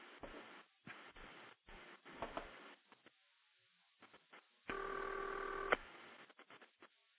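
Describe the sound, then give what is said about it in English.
A muffled, narrow telephone line crackles with bursts of noise and clicks, then a single buzzy authentic old-style ringback tone, added to a telephone recording, sounds steadily for about a second before cutting off. “Now what I've done is I've put a series of authentic old ringback tones on there to try to make it sound as much like an old old phone system as possible, and I think it adds to the realism.”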